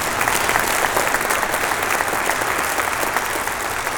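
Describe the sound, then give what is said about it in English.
A large crowd claps steadily for several seconds, a dense, loud wash of overlapping handclaps without pause. “I think you should clap again.”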